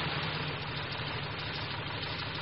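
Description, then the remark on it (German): A Volkswagen, a German car, idles steadily with its engine making a continuous low rumble with a faint rhythmic chug, with no voices or other sounds over it. “Das ist ein Wagen. Ein Volkswagen.”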